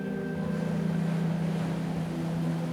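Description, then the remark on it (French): A steady engine drone on board a boat, with a constant low hum and harmonic tones over a broad wash of water and wind noise. It stays loud and even, with no talking. “Combien de passagers sommes-nous sur ce bateau?”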